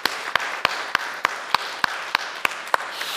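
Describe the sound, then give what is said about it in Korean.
An audience applauds to give praise to God during a church service: a steady wash of many hands clapping, with sharp, evenly spaced claps standing out about three times a second throughout. No one speaks. “우리 하나님한테 우리 한번 박수 한번 돌려드리죠.”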